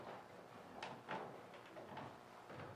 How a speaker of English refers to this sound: would you be so kind as to close the door? That way I won't disturb anybody in the reading room.